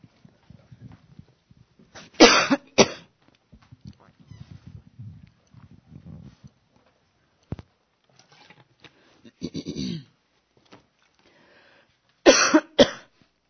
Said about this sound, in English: Somebody's having a big issue going on. Normally when we cough, there's some big issue going on.